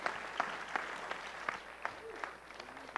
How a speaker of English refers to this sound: You guys can give him a round of applause if you want.